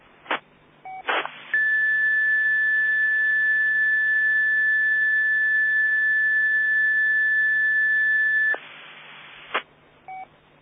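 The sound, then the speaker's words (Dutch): A single steady, high-pitched 1750 hertz radio beep tone, sent when a wrong button was pressed, holds for about seven seconds over a hissy radio channel, with short bursts of static and squelch clicks before and after it. No one speaks. “Nou heb je een verkeerd knopje ingedrukt, want we hoorden een 1750 hertz pieptoontje.”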